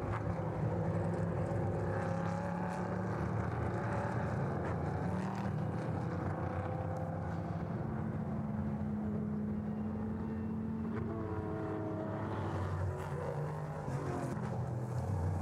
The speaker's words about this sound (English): The low thrum of the V8s in the LMP3 cars just barely ticking over at the moment. Probably just got the car in second or third and it's barely ticking over, just pulling itself along.